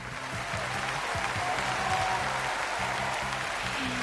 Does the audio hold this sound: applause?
yes